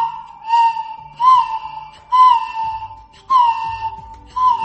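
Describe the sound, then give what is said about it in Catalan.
A piston whistle, an owl-hunting whistle (mussolera), is blown while the piston is moved to modulate the sound, giving five breathy, hooting tones in a steady rhythm, each sliding slightly in pitch around a mid-high note, imitating an owl's call, with no talking. “Per fer-lo sonar, només cal bufar i anar movent el pistó per anar modulant el so que imita prou bé l'udol de les òlibes.”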